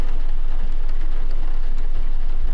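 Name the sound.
rain falling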